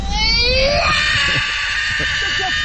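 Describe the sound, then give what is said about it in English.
A young boy screams loudly and continuously while standing up in the back seat of a car, trying to get out of his baby seat, a piercing high-pitched shriek that rises at the start and holds steady, with faint voices underneath. “That was weird because he all of a sudden starts like screaming and standing up in the back seat of the car.”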